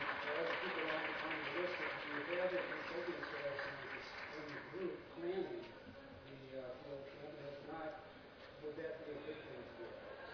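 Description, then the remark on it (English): An audience claps in a dense, continuous patter that keeps going for the whole stretch, with a murmur of voices mixed in underneath and no single clap standing out. “They were clapping for me just when you said something.”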